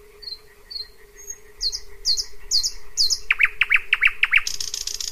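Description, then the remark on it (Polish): A thrush nightingale sings alone at night in June, moving from thin whistles into loud repeated notes and a fast rattling series, over a steady low background hum. “A więc to jest nocna, czerwcowa pieśń słowika szarego.”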